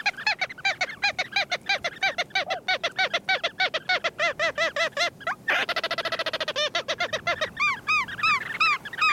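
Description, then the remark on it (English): Ross's gull calls ring out in a rapid, continuous series of shrill, squeaky notes, with a quicker stuttering burst midway, loud with several birds overlapping. “Ross's gulls breed on the coast of Greenland and northern Siberia, where they feast on flying insects hawked from tundra ponds.”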